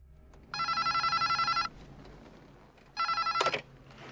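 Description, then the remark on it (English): An old brick mobile phone, of the kind Gordon Gekko used, rings with a warbling electronic trill, sounding in two loud bursts: a long one, a pause, then a shorter one. No one speaks. “Well, ultimately, it could mean they go the way of the Gordon Gekko brick phones.”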